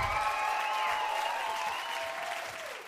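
An audience applauds steadily after a live band performance on KEXP's South by Southwest Music Festival broadcast, a dense, even patter of clapping with a few cheers mixed in, holding loud before easing slightly at the end. No one speaks.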